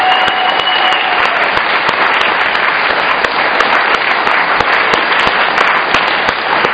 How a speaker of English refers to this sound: So how about a big round of applause for … for this party?